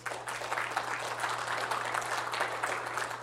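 An audience claps together as a clap offering to God, a dense, steady burst of applause that holds at an even level for about three seconds, with a faint low electrical hum underneath.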